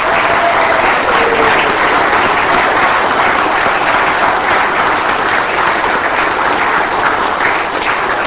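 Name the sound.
round of applause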